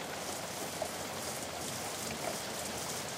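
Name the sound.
rain falling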